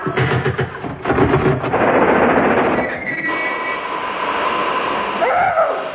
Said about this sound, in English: A puff-puff train.